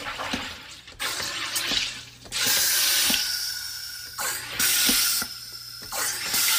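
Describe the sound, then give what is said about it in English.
A carbonation machine forcing gas into water in its carbonation chamber: repeated loud bursts of hissing, each starting with a mechanical click, about five presses in a row with short gaps between. No one speaks. “Going back in the carbonation chamber. Okay. Let's do this. Press it 5 more times.”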